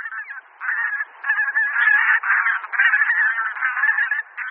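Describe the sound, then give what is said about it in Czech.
A flock of tundra bean geese honking continuously, many overlapping nasal calls forming a steady, fairly loud chorus with brief dips, no voices present. “U nás husy polní zimují v blízkosti vod.”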